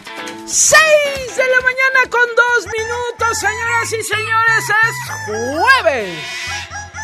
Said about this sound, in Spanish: Es jueves y el cuerpo lo sabe, por supuesto, porque ahí va el gallo de los jueves